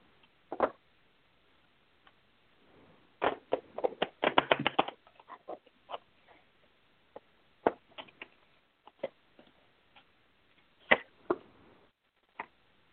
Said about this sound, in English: Okay, I need to shuffle the cards one more time. I'm getting the same card.